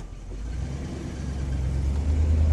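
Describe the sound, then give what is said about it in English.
A heavy truck engine is started and rumbles low and steady, its drone building slightly in loudness as the truck drives away. No voices. “I asked what was there, but he didn't reply, just started the truck and we drove.”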